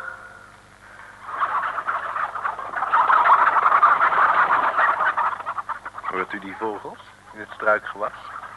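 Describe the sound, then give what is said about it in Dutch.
A dense, busy chorus of birds chirping and twittering in French shrubbery along a road in France swells up and carries on steadily for several seconds, before a man's voice begins speaking over it near the end. “Heerlijke vogels, Franse vogels en Frans struikgewas.”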